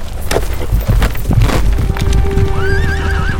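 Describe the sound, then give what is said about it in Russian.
Lermontov's fast horse in the Caucasus, escaping pursuers: a horse whinnies loudly over a rapid clatter of galloping hooves, the rhythmic pounding continuous, with a rising tonal neigh near the end. “Только благодаря резвости своего коня Лермонтов смог уйти от погони.”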